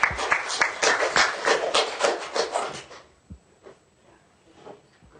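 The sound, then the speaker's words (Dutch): A children's council applauds itself after its members are installed and the council is complete, with dense, rapid clapping for about three seconds, then it quickly dies away into a few scattered claps and quiet room noise. “Allemaal groot applaus voor jullie zelf, wij, ons kinderraad is weer compleet.”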